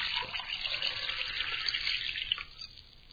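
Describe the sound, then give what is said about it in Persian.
Water streams steadily from a tap left running while bathing, a continuous hissing splash that stays fairly loud throughout, with no voices. “یا از همه بدتر، وقتی حمام میکنیم، عادت کردیم که این آب مدام باز باشه.”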